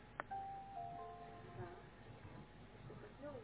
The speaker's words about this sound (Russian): У меня устанавливает программку, но я не слышала, чтобы он так пикал. Поет прям красиво.